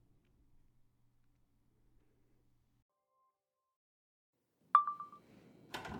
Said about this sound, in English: Is that my phone? Yeah, you left it. The alarm started going off, so I, you know.